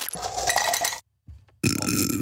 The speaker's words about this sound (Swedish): Ni kommer att höra skillnad, för nu kör vi kallt vatten.